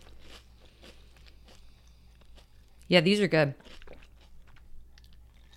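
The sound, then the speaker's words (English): Quiet crunching as someone chews crispy, salty Brussels sprout puffs, with a steady run of crisp bites before and after a short spoken remark in the middle. “Texture's great. You can hear how crunchy they are.”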